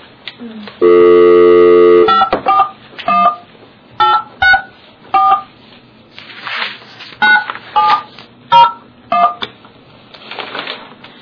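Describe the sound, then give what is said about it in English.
A steady dial tone gives way to roughly a dozen short telephone keypad tones, each a crisp two-note beep, punched in at an uneven pace as an ethics commission staff member dials to call a respondent; loud, with no talking. “Okay, I am going to call the first the respondent.”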